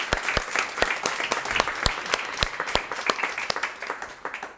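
short round of applause

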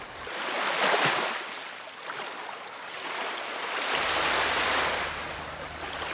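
ocean waves

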